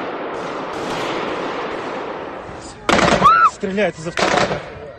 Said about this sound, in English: In this eyewitness footage, a man can be heard saying, "They are firing from a machine gun. They are shooting the crowd." Russia's investigative committee said camouflage-clad gunmen opened fire with automatic weapons at concert-goers